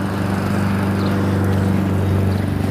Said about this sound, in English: There's the neighbor out mowing his lawn. Does this about 5 times a week.